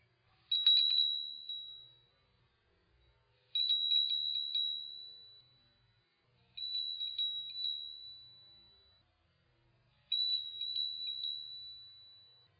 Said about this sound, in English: I ring this bell 3, 4, 5 times in a row. Can it be fresh each time?